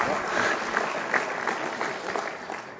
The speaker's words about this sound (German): Zum Thema und zum Gast des heutigen Abends, ja, das ist wirklich ein Applaus wert.